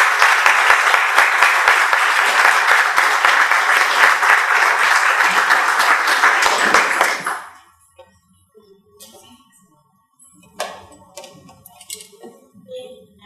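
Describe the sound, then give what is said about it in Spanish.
An audience applauds loudly and steadily with dense, crackling claps for about seven seconds to welcome the speaker opening a series of talks, then the clapping stops abruptly, leaving faint scattered rustles and a few soft thuds. “para quien pido un fuerte y caluroso aplauso.”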